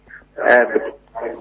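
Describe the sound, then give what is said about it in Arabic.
A television plays in the background of a caller's telephone line, its muffled broadcast voices coming through in two short bursts, thin as if picked up over a phone line. “سمعنا من التليفون لو سمحت وطي صوت التلفزيون.”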